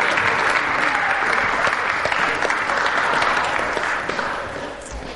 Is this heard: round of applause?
yes